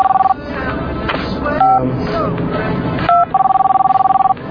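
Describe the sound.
A telephone rings with a rapid, warbling electronic trill in two bursts, a short one at the start and a longer one at the end, with people talking in between.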